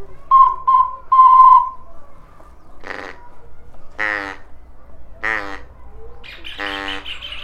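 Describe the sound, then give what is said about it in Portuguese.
A recorded bird call played several times in a row: a few quick whistled notes at first, then a series of harsh, buzzy squawks with short pauses between them, fairly loud, with no talking. “Agora eu vou tocar esse passarinho duas, eu vou tocar várias vezes”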